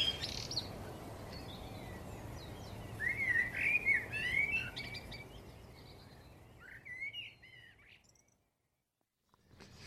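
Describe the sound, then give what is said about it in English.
Several birds chirp and warble at once all around over a steady outdoor hiss, their overlapping calls fading out near the end into a brief silence. “Anyway, I'm fit and well and enjoying this lovely serenade of birds all around me.”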